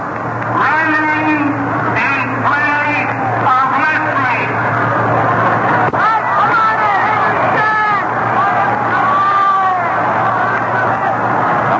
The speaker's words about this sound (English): Yelling for Moore to park one in the stands out there.